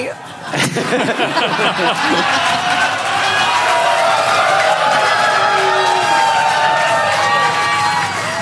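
crowd, audience cheering and whooping

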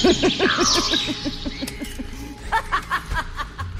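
bird, crows cawing

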